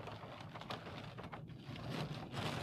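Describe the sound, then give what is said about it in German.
Steady, dense, very heavy rain hisses without a break, a broad wash of noise with a low rumble underneath, continuous throughout, no voices. It is falling on a parking lot as visibility keeps dropping. “Ist das Regen, Martin? Ja. Das ist Regen, ja. Das ist echt heftig gerade.”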